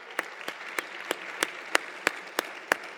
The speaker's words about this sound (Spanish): Acababas de lanzar tu libro El Negociador, que se convirtió en el libro más vendido de 2021, más de 200,000 copias vendidas. Un aplauso.